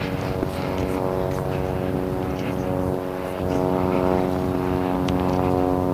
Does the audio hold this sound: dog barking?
no